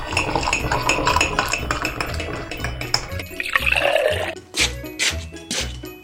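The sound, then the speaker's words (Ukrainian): Tea is poured into a cup, a steady splashing whose pitch rises as the cup fills, with a few light clinks of crockery and no one speaking. “Чай я тобі зараз принесу, зачекай хвилинку.”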